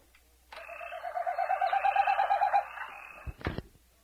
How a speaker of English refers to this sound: Have you ever been walking in the back 40 in spring and heard an eerie winnowing whistle, brief in duration and growing slightly in intensity, just before the end of each phrase, like this?